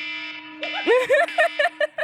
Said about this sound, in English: I have to tell you that I never remember to change my phone alarm sound away from that. So that is the nightmare noise that wakes me up every single morning.